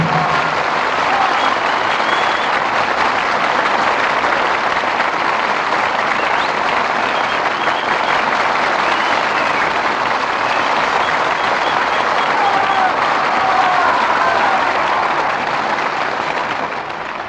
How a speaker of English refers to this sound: who returned to the footlights in response to your applause.